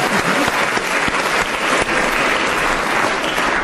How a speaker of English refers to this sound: Was beautifully read, I have to say. Very good. Oh, give him a clap, everybody.